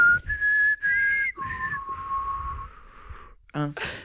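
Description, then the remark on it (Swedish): A short whistled tune used as a text message tone: a few clear high notes rising, then a long, steadier lower note, with soft breathy voice sounds underneath and a brief burst of voice at the end. “Ska berätta för dig att det var min sms-signal ett tag.”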